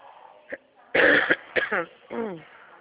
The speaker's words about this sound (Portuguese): Desculpa aí, amiga, tossi na sua orelha. Minha garganta.